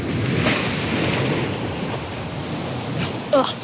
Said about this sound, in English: Uh-oh. It's lifting its flipper. It's too close to the boat. Oh my God, it's gonna splash.